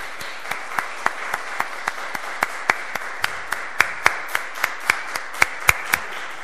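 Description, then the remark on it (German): Applause from a small audience in a church for the organist and the singing group: a steady wash of clapping with sharp, evenly spaced claps standing out in a regular rhythm, moderately loud and continuous throughout, with no talking. “Ich finde, das ist ein Applaus wert.”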